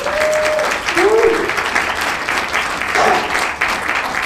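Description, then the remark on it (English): A crowd claps steadily for several seconds for the presenters, a dense, loud wash of applause with a few brief whoops or cheers rising above it. “And to cram it into 3 minutes, let's hear it for the presenters.”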